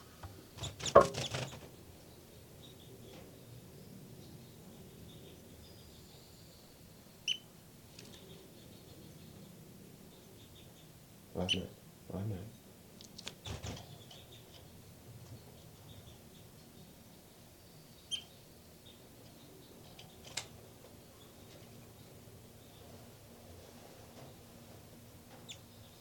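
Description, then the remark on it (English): Nestling birds give a few thin, high-pitched cheeps, scattered and brief, over a low steady background, with occasional soft thumps and rustles and no talking. “Back to the nest. Where the baby birds are calling.”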